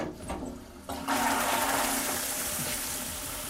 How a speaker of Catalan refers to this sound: Has tirat de la cadena, ja és el moment. És el moment que has aconseguit el teu objectiu.